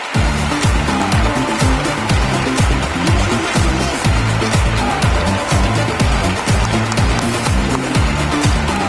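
An audience applauds steadily for about nine seconds as the night's next guest is introduced on a show, a loud, dense wash of clapping over a thumping, rhythmic low-pitched beat that continues underneath the whole time.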